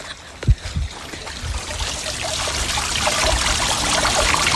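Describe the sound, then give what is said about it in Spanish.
Steady trickling of water from a fountain on a farm estate, a continuous bright splashing that grows slightly louder, with a brief low thump near the start and no one talking. “Vamos a escuchar el agua, un momentito.”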